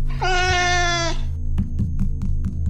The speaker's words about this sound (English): Oh, drat that cat! Come back here! Get off the console!